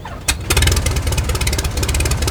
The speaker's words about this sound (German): Es knallte und knatterte. Schließlich stieg schwarzer Qualm auf und der Propeller begann sich langsam zu drehen.